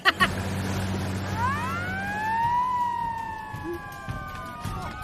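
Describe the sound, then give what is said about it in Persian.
A police car siren wails with rising and falling tones over a steady low engine rumble, moderately loud, with a couple of sharp knocks at the start. “ای بچه ها پلیسی بودایی پلیس اومده پایین هستی.”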